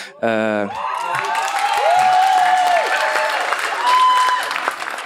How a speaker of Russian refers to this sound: Это не то собрание, если что, ребята. Вы не там аплодируете, да.